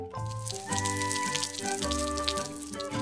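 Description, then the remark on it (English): Water pours and splashes steadily for a few seconds, as if from a watering can, onto soil and seeds in a plant pot, layered over sustained musical tones that shift chords. No one speaks. “Water them again.”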